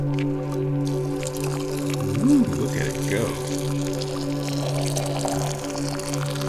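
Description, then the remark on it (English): Boiling water pours steadily into a teapot holding a tea infuser to make tea, a continuous gurgling stream with a ringing, hollow tone, while a person briefly speaks over it. “We can take the lid off of the water boiling vessel, put the tea thingy in the teapot, and let's make some tea. Let's pour the water.”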